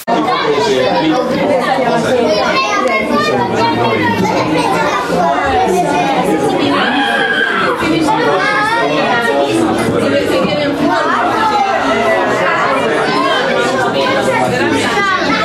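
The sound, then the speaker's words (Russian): A dense, loud hubbub of many overlapping voices talking and shouting at once, continuous, from everyone seated at a huge long table like at a wedding, all yelling loudly over each other. “Во-первых, было невероятно шумно. Это был такой здоровенный длинный стол, как на свадьбе, и все сидели за ним и громко орали, буквально все.”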